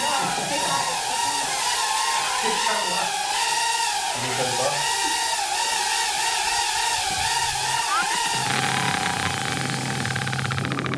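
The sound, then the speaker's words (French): Drones buzz steadily and loudly throughout, a dense whirring drone with wavering high-pitched tones that rise and fall as the motors shift speed, with a lower rumble joining near the end. “C'était C'est des drones.”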